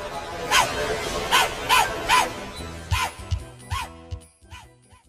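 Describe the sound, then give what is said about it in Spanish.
A small dog barks and yips repeatedly in quick, high-pitched bursts, with about seven sharp yaps spaced roughly half a second apart. “Escogerás un buen perrito.”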